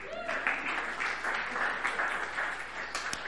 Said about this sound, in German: Applaus für den Traugott.